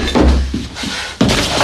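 Someone kicks a cabinet unit by the window: a heavy thud followed by a few duller knocks and then one sharp, loud bang, with a rattling resonance between the hits.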